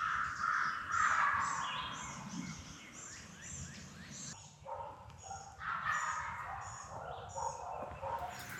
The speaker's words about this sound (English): Did you hear that? Hey, rain or shine, it's turkey time. I just heard a gobble.